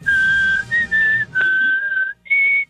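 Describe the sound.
A person whistles a short tune, holding clear, steady pitched notes in several phrases with brief breaks, ending on a slightly higher note.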